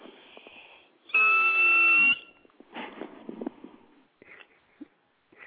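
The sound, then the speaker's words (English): A person imitates a dolphin's 'eek' whistle with the microphone moved a little away: one loud, high, squealing tone held for about a second, wavering slightly and dipping at the end, with faint scratchy rustling before and after. “I'll give a dolphin sound, but I'm going to move my microphone a little bit away because I'll just give you my tone.”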